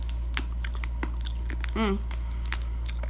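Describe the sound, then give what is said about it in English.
Irregular crunching and biting as a hard sweet candy is chewed, with a brief strained vocal grunt partway through and a steady low hum underneath. “Ah, I need to chew it.”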